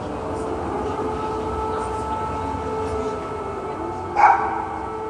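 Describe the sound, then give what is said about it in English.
A drone flies overhead at night in Kyiv, its engine droning steadily, a continuous buzzing hum with layered tones, broken near the end by a brief, sharper burst of sound. No one speaks. “So one of these files is sort of the ambient sound of what a drone sounds like just when you're walking around Kyiv at night”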